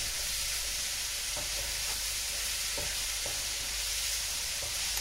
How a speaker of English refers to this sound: So keeping this moving all the time. Just searing the meat. There we are. Isn't that a lovely sound? I do like the sound of frying and cooking. Remember, we are frying, we're not boiling, we're not stewing.